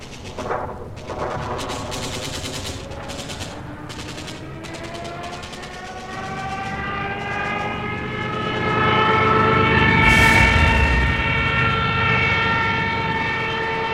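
Rapid bursts of machine-gun fire crackle over the climbing, droning whine of German and Italian aircraft engines as they strafe and bomb refugees fleeing across the Pyrenees toward France, swelling into a loud roaring blast toward the end, with no voices.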